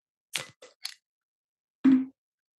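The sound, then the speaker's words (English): A beer bottle is pried open with the base of a can: three quick metallic clicks as the edge catches, a pause, then a louder short pop and hiss as the cap comes off. “Like you might get some knock marks on your base cup, but you only chip your base cup if you're shitty at opening a bottle with a can.”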